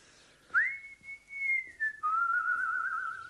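A person whistles a short tune they always whistle: a clear, sustained high note that glides briefly, then drops to a lower, wavering held note. No one speaks.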